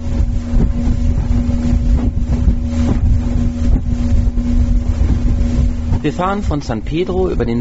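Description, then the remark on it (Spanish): A motor launch drones steadily on Lake Atitlán, Guatemala, approaching Panajachel, its engine hum mixed with rushing wind and water; toward the end a person starts speaking over the continuing engine noise. “En una lancha sobre el lago Atitlán, en Guatemala, nos acercamos a Panajachel.”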